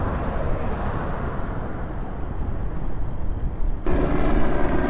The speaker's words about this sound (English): Chopper coming through.